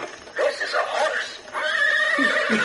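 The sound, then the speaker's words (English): A loud whinnying neigh, quavering and drawn out in two bursts, sounding like a person vocally imitating a horse rather than a real animal. “This is a horse.”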